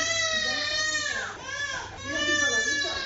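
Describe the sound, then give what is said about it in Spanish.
A baby wails loudly and continuously after a vaccine injection with a needle, a strained high-pitched cry that dips briefly for a breath midway and then rises again into sustained crying. “Qué mal lo pasan las mamás y los papás cuando tienen que ver cómo una aguja pincha a sus bebés y más si se ponen a llorar.”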